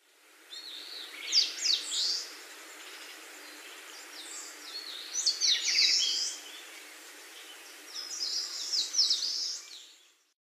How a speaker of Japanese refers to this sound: 仙台虫食いです。